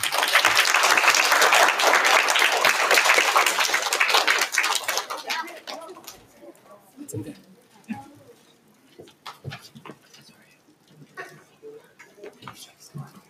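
An audience claps loudly in a dense, steady burst for about five seconds, then the applause quickly fades into scattered quieter sounds and faint murmuring.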